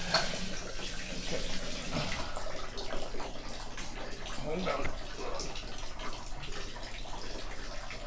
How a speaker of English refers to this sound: Okay, that's a lot of bubbles. Okay? It's too much. Baby, it is. They're like, okay, they're almost coming out of the tub. Okay, I think that's enough water.